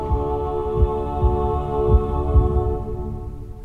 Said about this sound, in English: it's a perfect match for his heartbeat. And it stays in perfect time.